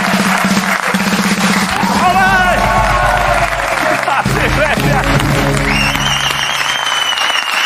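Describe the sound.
An audience applauds actor Maxi Iglesias loudly and steadily throughout, a dense wash of clapping with shouting voices and sustained tonal sounds rising over it.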